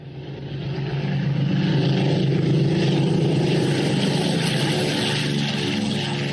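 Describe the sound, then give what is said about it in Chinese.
A deep, steady drone of a parade formation of 17 propeller aircraft flying in a triangular formation at under 1000 metres over Tiananmen Square, four carrying live ammunition, swelling within the first second and staying loud and continuous, with a rough engine hum and no voices. “战车方队还没有完全驶过天安门，在天安门广场上空，由17架飞机组成的编队呈品字队形，以不到1000米的高度飞过来了。”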